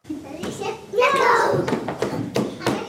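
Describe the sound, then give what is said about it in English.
Toddlers chatter and squeal while scattered thumps and light clattering knocks break through as they throw colorful blocks and balls around an indoor play center in Cheyenne, Wyoming. “A sea of toddlers throw around colorful blocks and balls at an indoor play center in the Wyoming state capital of Cheyenne.”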